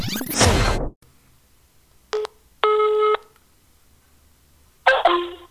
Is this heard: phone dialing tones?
yes